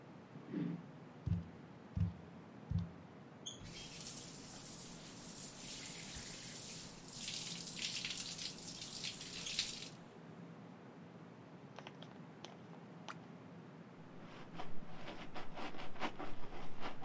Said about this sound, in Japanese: このままシャンプーも済ませて、一気にパーって流しちゃおっか。髪の毛洗っていくから、目つむってて。